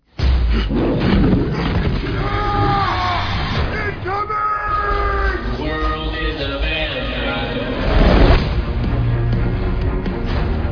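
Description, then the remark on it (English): A giant 30-foot monster wolf roars loudly and at length, a dense, growling bellow over a deep booming rumble that swells again near the end. “Oh, you didn't know about the 30-foot wolf?”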